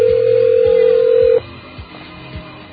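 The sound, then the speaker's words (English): A telephone ringing tone heard down a phone line as a call rings through to the mobile operator: one steady, loud ring lasting over a second, then it cuts off, leaving quiet line hiss and faint low thumps. “All right, we've got the mobile operator ringing here.”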